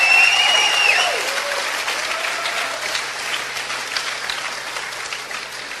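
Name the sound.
audience applauding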